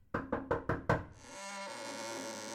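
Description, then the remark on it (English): Five quick, firm knocks on the door of a study in an even rhythm, fairly loud, followed by a steady droning tone that carries on to the end. “Well, I shall knock anyway.”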